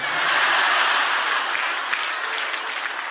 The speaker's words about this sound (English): Why y'all clapping?